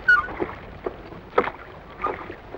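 The oars of a rowing boat dip and pull through water in a loose, repeating rhythm, each stroke a soft splashing swish with faint creaks between, over a low watery hiss and no voices.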